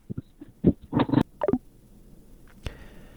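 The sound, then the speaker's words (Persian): A listener's call-in phone line to Radio Azadi crackles with brief, choppy bursts of garbled sound, then falls quiet before a single sharp click cuts the call, leaving faint line hiss. “بله متاسفانه تلفن ها قطع شد.”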